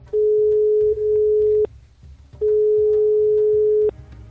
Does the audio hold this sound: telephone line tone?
yes